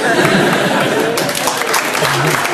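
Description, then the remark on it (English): An audience at a Radio 4 show breaks into scattered clapping, a steady patter of hands mixed with murmured chuckles and crowd noise, holding at a fairly loud level for a couple of seconds. “Only on Radio 4 would that get a smattering of applause.”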